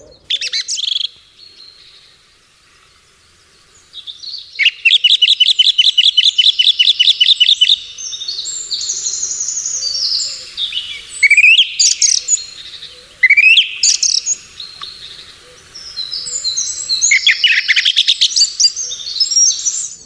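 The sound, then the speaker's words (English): A song thrush sings loudly, alone, in varied bright phrases, some notes rapidly repeated in quick bursts, with short pauses between phrases. “Well, it's called a song thrush in the slang.”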